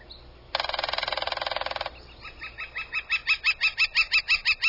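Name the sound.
young flicker calling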